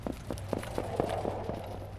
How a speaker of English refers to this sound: We are watching some horse racing that's going on right now at the Sandwich Fair, which in just a moment, they will be clopping by.